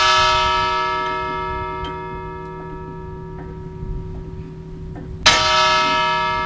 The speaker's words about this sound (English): For almost a century, this huge bell has stood near the entrance to the Federal Immigration Station on Angel Island, a historic facility that will reopen to the public on Sunday after 3 years of restoration work.